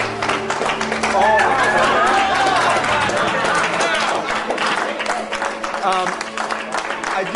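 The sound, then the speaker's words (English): A crowd keeps applauding to celebrate the acquisition of NCT Software by Oracle Corporation, with steady dense clapping filling the whole stretch and scattered voices and cheers rising over it, loud throughout. “They're done. Never stop clapping.”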